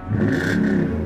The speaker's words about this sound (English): This year, it's a 1990 Chevy Corvette. Bright red exterior, gray leather interior. And under the hood, a Chevy 350 small block with 345 foot-pounds of torque